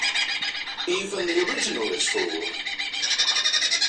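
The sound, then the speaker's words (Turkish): A lyrebird runs through a varied string of whistles, trills and warbling phrases mimicking other birds' calls, shifting from one call type to another, set against a dense, continuous chorus of high chirping and buzzing in the background. “Lir kuşu bu. Duyduğu bütün sesleri taklit edebiliyor.”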